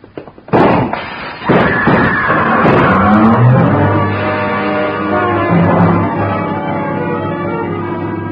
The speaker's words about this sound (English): Came from a car, double parked. First, I saw the pistol come out of the window. Then I dropped, and from a prone position, I heard the rest.